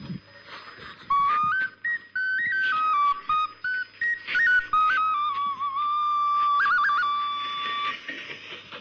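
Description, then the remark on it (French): A clay ocarina plays a pure, breathy melody of stepping notes, fairly loud, with short pauses between phrases and no voices. “Les ocarines intercuites.”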